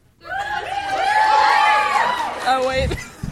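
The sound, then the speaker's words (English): A crowd of many high-pitched voices, an audience screaming yes to whether Albus and Rose will get married, screams together, swelling quickly into a loud sustained shriek for about two seconds before breaking up into scattered yells and laughter. “Do you think Albus and Rose will get married? If yes, scream.”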